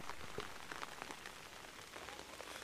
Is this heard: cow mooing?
no